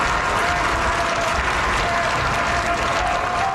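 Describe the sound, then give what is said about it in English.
A crowd outside Rome's Gemelli Hospital cheers and claps as Pope Francis, in a wheelchair on the balcony of his room, blesses them; a dense, steady roar of applause and voices holds at an even, loud level throughout with no pauses. “He was pushed out onto the balcony of his room in a wheelchair and blessed the crowd gathered outside the hospital.”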